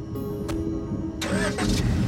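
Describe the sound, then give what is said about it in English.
Carrie starts her car on a darkened street: the engine cranks and catches, a low rumbling hum with a bright burst of starter noise, then settles into a steady idle. No one speaks. “She starts the car and begins to follow him down the darkened street.”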